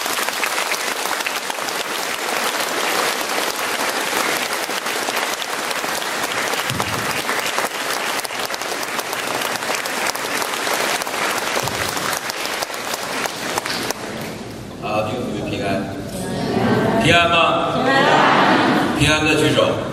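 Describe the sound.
Warm, sustained audience applause fills the first fourteen seconds with a dense, steady patter of many hands, then fades as a man begins speaking over a quieter room.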